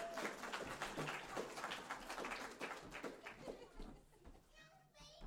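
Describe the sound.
An audience claps in a dense, steady patter for about four seconds before it thins out, with children's voices chattering and calling out over the applause.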